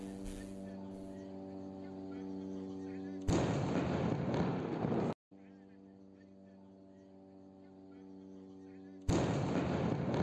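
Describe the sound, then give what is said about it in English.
Two heavy, rumbling bomb blasts from nighttime airstrikes in the Gaza Strip, about a kilometre and a half away, erupt a few seconds apart, each roaring loudly for a second or two over a steady, buzzing drone that hums through the quieter stretches. “Watch the flash to bang. 1-1,000, 2-1,000. That's a big flipping bomb, man.”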